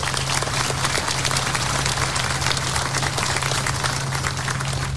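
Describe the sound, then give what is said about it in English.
Sustained applause from a sizable audience for the council members who worked to fund a project, a dense steady patter of many hands clapping at an even loudness throughout, with a faint low hum underneath and no voices. “And I think they deserve a round of applause for that.”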